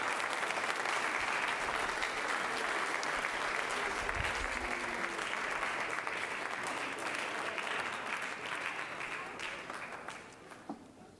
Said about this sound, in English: Somebody love God right now. Clap your hands into Him and bless His name.